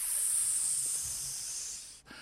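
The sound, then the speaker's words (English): A long, steady hiss like escaping steam, made by a voice and likened to a sound from Blazing Saddles, holds for about two seconds at moderate loudness, then cuts off abruptly, with no talking. “Sounds like steam escaping.”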